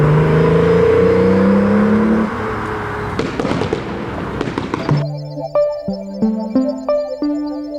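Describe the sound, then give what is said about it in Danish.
A Toyota Supra sports car's turbocharged six-cylinder engine revs loudly, a burst of sharp popping crackles in the middle, then repeated rising pulls in quick steps like gear changes, with no voices. “Kraftige 6-cylindrede turbomotorer og biler, der især blev berømte efter at have været med i The Fast and the Furious-filmen.”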